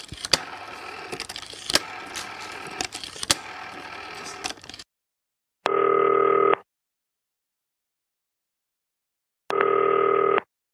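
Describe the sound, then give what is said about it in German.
Clattering clicks and handling noise from a telephone give way to two steady electronic ringing tones heard through the line, each about a second long with a pause between. “Ab ans grüne Telefon. Kannst du nicht anrufen.”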